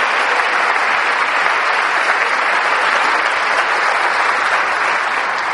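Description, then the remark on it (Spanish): Steady, dense audience applause at a Christian talk, offered to Jesus Christ, fills the whole stretch, many hands clapping together in a constant wash of sound with no voices standing out. “Solo servidores de Dios, el único que hace la obra, y por eso el único que merece la gloria y los aplausos es Jesucristo.”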